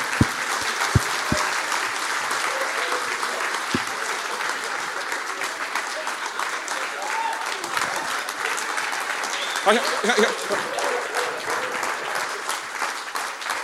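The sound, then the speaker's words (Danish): Sustained applause from a large audience welcoming the next guest, a blind undertaker, steady and dense for the whole stretch, with a few sharper claps near the start and faint voices mixed in. “Giv en kæmpe stor til en blind bedemand.”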